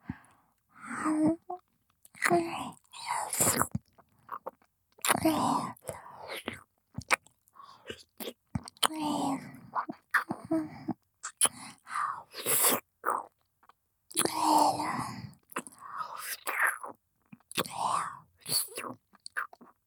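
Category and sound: human body sound, ear licking mouth sounds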